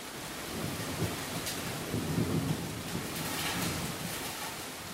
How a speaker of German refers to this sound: Am Morgen regnet es in Strömen.